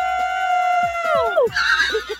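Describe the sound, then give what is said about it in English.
A caller who is driving to work screams with excitement on being told she is caller number 8: a loud, high-pitched scream held steady for about a second before sliding down in pitch and breaking into a shrill, breathy squeal. “You are going just screaming.”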